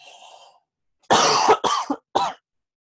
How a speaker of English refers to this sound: And I'm sorry about the cough. I got over a cold, like, as I told you last, what was it, that I ended up having a cold and nearly dying during a thing.